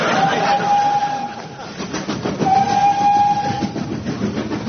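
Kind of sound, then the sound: vocal imitation, voice imitating a train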